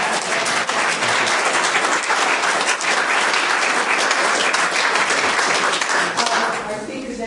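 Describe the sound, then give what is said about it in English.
A crowd applauds the speakers steadily, a dense wash of many hands clapping at even loudness for several seconds before tapering off slightly at the end. “Our speakers just have some applause.”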